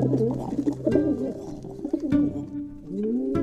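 bird, pigeon cooing

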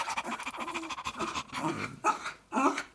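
animal, dog panting

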